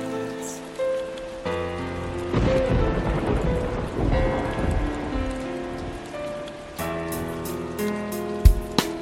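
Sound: rain and thunder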